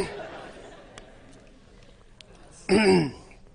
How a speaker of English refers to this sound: I took a drink to clear my throat and it went down the wrong